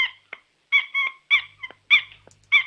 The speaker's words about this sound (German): Ist das ein Quietscheentchen? Nein. Was ist es denn dann? Eine Schildkröte, die quietschen kann.